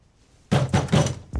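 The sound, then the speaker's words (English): A New York police officer pounds a fist hard on a locked door: three heavy, booming thuds in quick succession, then a fourth after a short pause, loud after a moment of near silence. “NYPD, open up!”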